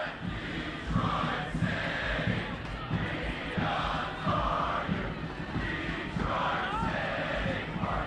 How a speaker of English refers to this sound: cheering on the Detroit City Football Club Friday at Castec